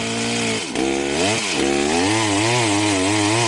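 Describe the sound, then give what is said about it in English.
A chainsaw roars loudly, its engine whining steadily, then bogging down twice as it bites in before revving back up and wavering under load while cutting down a tree in the mountains. “The only thing we're able to bring is chainsaws.”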